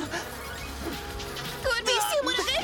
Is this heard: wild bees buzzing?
yes